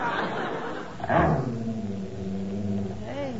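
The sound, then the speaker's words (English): A low, sustained dog growl rumbles steadily with a wavering pitch, rising into a sharper snarl near the end, loud, with a brief noisy burst early on. “Hey, listen to that dog growling.”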